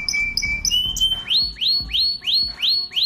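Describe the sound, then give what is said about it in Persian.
A person whistles in imitation of a canary: a steady high tone breaking into a run of quick, rising, chirpy trills, repeated about six times in a bright, lively rhythm with no talking. “ناز نفست قناری.”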